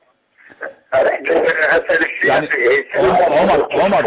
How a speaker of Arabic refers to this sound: ابتعد عن التلفزيون او خفض صوته وتفضل اسمعنا من الهاتف. ما سمعنا شيئا. يعني قلت لك ابتعد عن التلفزيون، يعني هم يقتربون من التلفزيون فيحدث هذا